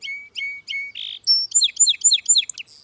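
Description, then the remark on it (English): A song sparrow sings clear with no talking: three bright introductory notes, a short buzzy note, then a quick run of rhythmic, slurred trills ending in a high chip. “But many other species show a distinctive streaking pattern, like this song sparrow.”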